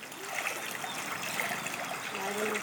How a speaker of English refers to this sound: That's a child on Pari Island playing in his yard, which has turned into a murky lake.